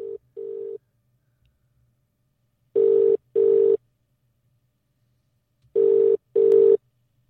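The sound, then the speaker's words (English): A telephone ringing tone heard down the line as a call is placed: three pairs of steady, buzzy double rings, separated by silent pauses, clear with no voices. “I'm ringing you when you asked me to.”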